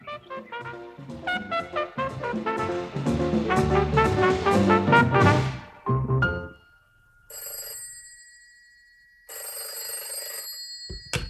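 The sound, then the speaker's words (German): A telephone bell rings in two bright, shrill bursts separated by a short pause. They follow a stretch of full, busy orchestral music that breaks off just before the first ring. “Oh, dieses Telefon.”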